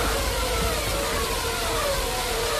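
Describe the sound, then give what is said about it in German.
A 2013 Formula 1 racing car engine screams at high revs, a loud, steady, piercing wail with layered harmonic tones and a dense roar, sustained without pause and no one speaking. “Um es mal zu verdeutlichen, hier der Motorensound 2013.”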